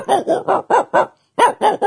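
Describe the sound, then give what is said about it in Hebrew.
A man, a world-champion animal-sound imitator performing on a radio broadcast, imitates a dog barking: a rapid run of five harsh woofs, a short pause, then two more, loud, with no other talk. “איזה עוד קולות? כלב? יאללה, כלב.”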